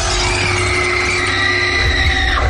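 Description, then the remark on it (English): A loud, sustained high-pitched scream sound effect in a radio promo holds steady for a couple of seconds over a dense, rumbling wash of noise, with no talking. “In space, no one can hear you scream. On Joy 94.9, it's a different story.”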